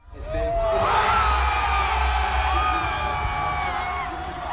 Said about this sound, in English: France has a new president today. You're hearing crowds cheering last night in front of the Louvre Museum, where the results were announced.